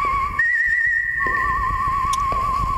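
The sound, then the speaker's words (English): A clear, steady human whistle by a whistler from Milwaukee carries a sustained melody with slight vibrato, bright, over a soft instrumental backing in a music recording. “Whistling, by the way, was done by … out of Milwaukee”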